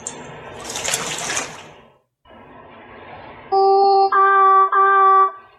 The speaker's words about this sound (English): Keep in mind, again, those are the tones that are being played beforehand. You'll be able to tell the seals. That poor little guy sounded like he had something stuck in his throat. Well, what they're trying to do is mimic not only tones